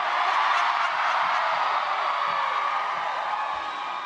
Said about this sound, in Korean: 네, 이 전날 토론회를 봤느냐고 이 클린턴 후보가 묻자 이 지지자들이 환호로 답했는데요.